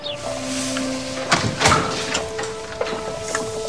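Several knocks on the front door of a house reached by steps up to a porch: a tight cluster of sharp raps followed by a couple of fainter single taps, over a steady low hum, with no voices.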